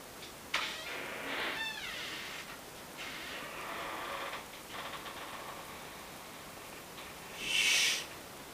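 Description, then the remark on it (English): A door creaks slowly open, drawn-out squeaky groans rising and falling for several seconds, then a short breathy rush of noise at the end. No one speaks. “You can hear this door.”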